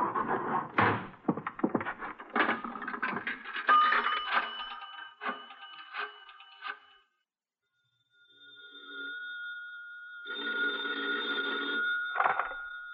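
After several seconds of clattering and rustling handling noises, an old-fashioned telephone bell rings with a call from Archie, a single loud metallic trill that sounds clearly on its own.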